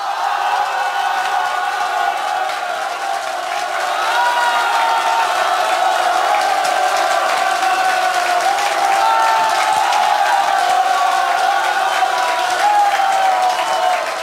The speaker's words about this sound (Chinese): 给自己热烈掌声鼓励一下。还想不想要再听啊？想的话再让我听听看你们的兴奋度和掌声，好不好？